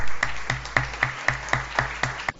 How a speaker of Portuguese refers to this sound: Aplausos.